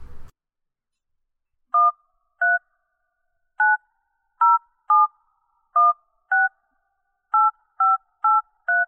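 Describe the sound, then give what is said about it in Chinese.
A series of eleven short, clear dual-tone keypad beeps from a phone being dialed for an outgoing call to a listener, pressed at an uneven pace with brief pauses between them, and no voices. “那下面准备播出我们的第一个电话，看看是位帅哥还是美女。”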